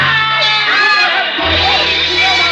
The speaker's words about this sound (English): The wild shouts from the crowd sent me running back.